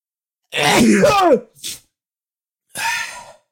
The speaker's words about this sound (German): ich muss gleich schon wieder niesen, Alarm.